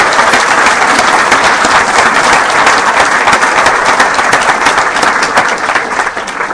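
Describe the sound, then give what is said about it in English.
A standing crowd applauds people from San Bernardino and Riverside counties, California, many hands clapping in a dense, loud wash of sound that holds level throughout and thins slightly at the very end. No one speaks. “San Bernardino and Riverside counties, let's stand up and let's give them a round of applause for being here.”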